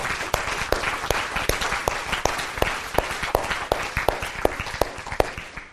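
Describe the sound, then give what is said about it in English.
A church audience applauds the graduates on graduation Sunday, steadily for several seconds. It is a dense wash of many hands clapping at an even, sustained loudness, with sharper individual claps standing out throughout. “And can we just go ahead and give them a round of applause for what they have done?”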